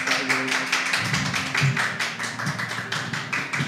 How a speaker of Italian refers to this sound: Applauso. Ma che applauso.